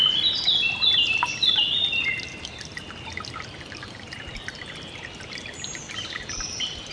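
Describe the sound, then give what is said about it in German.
A steady, gentle trickle of a babbling brook runs throughout, with bright bird chirps and song layered on top near the start and scattered later, no voices present. “Das leise Plätschern des Baches ist sehr beruhigend.”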